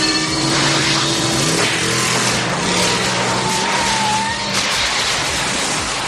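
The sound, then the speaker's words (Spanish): A DeLorean car engine revs loudly, its pitch climbing and dropping as the throttle opens and eases, with a continuous rough roar for several seconds and no voices. “Es el de DeLorean, de la mítica película Regreso al Futuro, ese coche que con un condensador flujo podía llevarte al pasado”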